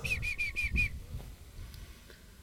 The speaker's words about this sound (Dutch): Groenpootruiter hoor ik. Groenpootruiter.